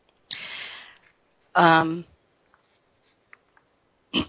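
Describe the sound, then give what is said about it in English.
Two coughs from a person with a cough and cold: a breathy, rasping burst, then after a short pause a louder, throaty voiced cough, followed by near silence and a brief sharp sound at the end. “excuse me, I've had a little bit of a cough and cold, so excuse me if I'm coughing a little bit.”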